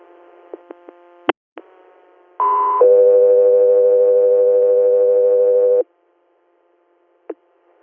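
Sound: dispatch alert tones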